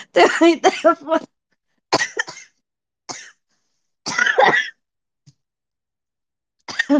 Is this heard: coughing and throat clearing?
yes